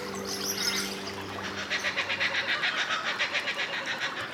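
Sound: kookaburra call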